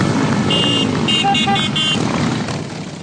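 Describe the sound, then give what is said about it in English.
Thousands of motorcycles rumble steadily in a Memorial Day parade through Washington, D.C., while several horns honk in short, overlapping bursts, all under a broad, busy street roar that fades slightly toward the end. “Then they ride in a motorcycle parade through the city to honor veterans.”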